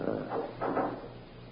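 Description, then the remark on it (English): A heavy fire door swings shut, making two muffled, rumbling thuds in quick succession over a steady low hum, with no one speaking. “Till I close the fire door.”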